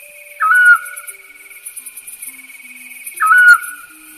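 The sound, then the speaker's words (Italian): A Eurasian scops owl gives two short, clear, metallic single-note calls about three seconds apart, with a steady insect-like hiss in the background of a quiet night. “Il canto dell'assiolo è monosillabico, con tonalità metalliche che lo rendono molto diverso dal gufo comune, che pure ha una vocalizzazione con una struttura monosillabica ma molto più cupa.”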